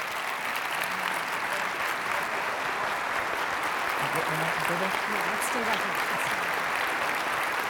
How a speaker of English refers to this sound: Okay, you can clap again in a moment.